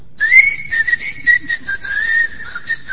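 A person whistles a tango melody, a clear, steady line of sustained notes with small pitch shifts, heard alone without any talking.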